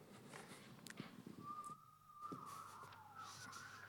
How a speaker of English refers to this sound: I've gotten used to the whistling, and now at the other services, I miss it because they don't whistle. So if some of you could go to the 9:30 and the 4 o'clock and start whistling there, that would be great.